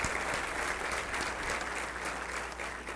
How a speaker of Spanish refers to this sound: Vamos a darle un aplauso al Rey de Reyes y Señor de Señores, Jesucristo.